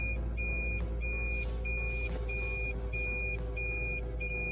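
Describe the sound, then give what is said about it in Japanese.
On a cold April morning around 9:30, a car engine rumbles steadily while a high electronic beep repeats at an even pace, about every two-thirds of a second, like a reversing alarm. No one speaks. “なんか今日ねえ、今9時半ですか、4月の22日のなんですけど、車が来てるから下がれないよこれ。”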